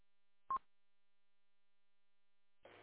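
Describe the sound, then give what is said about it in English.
Telephone tones from a plugged-in phone on a bench while someone tries to hang up a call: one short, clipped beep, a stretch of silence, then a steady buzzing tone that starts near the end and carries on. No voices. “The phone's plugged in, buzzing on my bench.”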